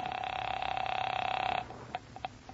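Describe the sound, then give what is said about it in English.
A single loud telephone ring with a rapid buzzing trill lasts about a second and a half, then cuts off, followed by a few faint clicks, as a call is placed at 8:30 p.m. after checking in at the Hotel Lee in Charleston. “by the time I checked in, and my first move was to the phone.”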